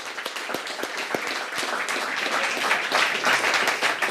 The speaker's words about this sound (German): Zum einen ist der CCC heute 36 geworden. Und ja, einen großen Applaus dafür.